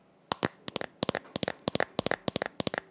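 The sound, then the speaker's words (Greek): Sharp, rapid fingernail taps and scratches on a hard container, done as an ASMR imitation of fingernails on a lotion bottle. A steady irregular run of bright clicks, some doubled, with short scratchy strokes between them and no voices. “Τώρα θα σας το κάνω το ASMR.”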